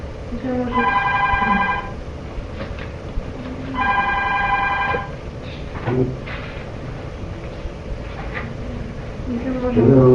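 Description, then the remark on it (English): A telephone rings twice in a room where a meeting is being held, each ring a long, bright trill separated by a short pause, loud, with faint room noise and a few soft clunks in between. “I was just having a meeting though in this room where the phone is”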